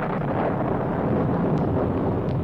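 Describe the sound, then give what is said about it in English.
A loud, continuous storm roar with deep rumbling thunder, sustained throughout, with no distinct single crack standing out and no voices. “A terrible storm suddenly burst upon the advancing Philistines.”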